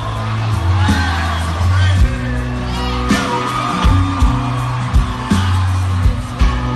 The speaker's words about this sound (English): the crowd's going nuts because it's …